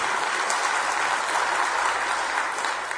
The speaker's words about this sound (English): And if you want to clap, go ahead. Give it, you know, go for it.